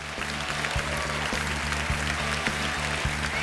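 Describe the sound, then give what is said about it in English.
A large crowd gives a standing ovation at the end of a stage show performed by Jim Jefferies, cheering and clapping steadily, a dense, continuous wash of applause at an even, sustained level with a faint low hum beneath it. “He takes his red solo cup from the stool and leaves the stage while the crowd is still cheering.”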